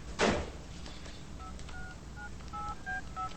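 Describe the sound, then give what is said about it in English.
A handling clunk as a woman wearing gloves picks up a cordless phone, then a quick run of about six electronic keypad beeps as she dials, each tone short and clear over a low background hum. “Wearing gloves, she picks up the cordless phone and dials.”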